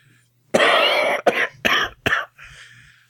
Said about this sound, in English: I'm gonna be editing out as many of these coughs as I can.